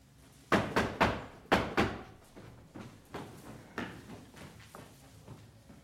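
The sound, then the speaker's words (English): Knocking on a heavy palace door: two quick bursts of loud, resonant raps near the start, followed by softer, more scattered knocks that trail off. No voices are heard. “With your permission, I'll go knock on that palace door.”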